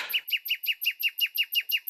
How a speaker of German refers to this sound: Die Amsel singt natürlich wunderschön.